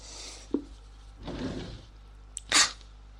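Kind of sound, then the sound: household object, drawer being opened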